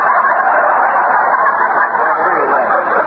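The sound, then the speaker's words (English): A flock of chickens clucking and squawking together in a dense, continuous chorus, loud, with no pauses across the few seconds and no voices. “Well, you can't expect me to chase chickens with a zither under my arm, can you?”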